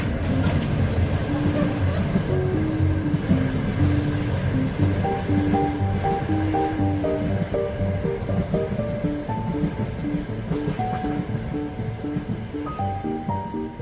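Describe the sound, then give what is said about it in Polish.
A moving train rumbles loudly and steadily throughout, a dense roar of wheels and rushing air, with faint sustained tones drifting over the noise, heard from the rear platform of the last carriage. “Fajnie, super jest, jak pociąg jedzie. Jesteśmy w ostatnim wagonie, na ostatnim pomoście.”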